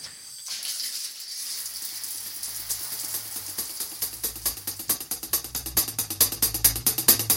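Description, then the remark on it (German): A steady, bright hiss of running shower water, with a low hum and a rhythmic pulsing beat building up underneath it and growing louder toward the end. No one speaks. “Und dann ab unter die Dusche.”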